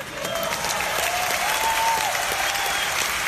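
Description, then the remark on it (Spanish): Sustained applause from a large audience at the Ig Nobel Prize ceremony at Harvard University, cheering the prize winners: a dense wash of clapping at steady loudness with a faint whistle-like tone rising and falling midway, no speech. “El escenario es la Universidad de Harvard, que se viste de gala, y ovación así a los premiados.”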